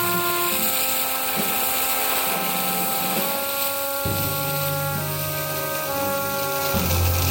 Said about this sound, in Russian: Достаточно, подключаю. О, пошла водичка. Заливаем огонь.